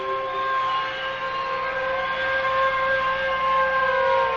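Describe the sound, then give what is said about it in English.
A loud air-raid siren wails continuously, its pitch holding mostly steady with only a slight slow drift, layered with several harmonics. There is no speech. “Then the sirens would rise and then fall slowly. Then they would warble like enraged demons.”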